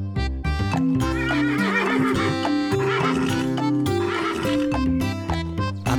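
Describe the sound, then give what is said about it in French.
A horse whinnies with wavering cries while hooves clip-clop in a steady rhythm, all set against a dense, continuous musical backing that stays loud from start to finish. “À Paris, sur un petit cheval gris.”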